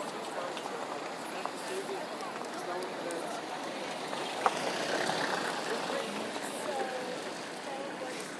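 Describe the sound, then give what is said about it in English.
Slow-moving road traffic on the road running from County Hall under Waterloo Bridge towards Blackfriars Bridge makes a steady, unbroken wash of engine rumble and hiss at moderate volume, with no distinct passing vehicles and faint indistinct voices mixed in. “Traffic's going quite slowly, so you actually makes it more difficult to work out whether it's stopped or still moving.”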